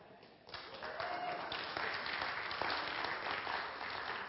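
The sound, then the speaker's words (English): An audience bursts into applause after a brief quiet moment, in response to an emphatic statement of belief about Genesis, a dense, steady clatter of many clapping hands that holds at an even loudness for about four seconds. “That's an emphatic statement of belief, not necessarily a solicitation for gratuitous applause.”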